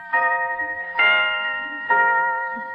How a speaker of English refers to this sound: Now, may I distract you further with this watch of mine? Your what? Yes, listen. Listen to it chime.